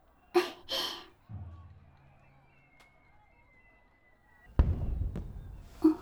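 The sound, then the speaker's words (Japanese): Muffled fireworks boom: a low rumble early on, then a sharper burst that rolls and fades, with soft breathy sounds near the start and no talking. “あ、花火。そう、もうこんな時間なのね。”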